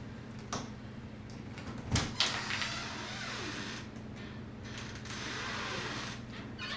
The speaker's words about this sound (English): was that your door? I don't know. Let me check. I don't think it's locked. Just open it.